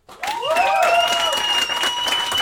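An audience claps steadily as an applause vote for a question, a dense, sustained wash of applause that starts abruptly and holds loud throughout, with a high feedback-like whistle tone ringing above it.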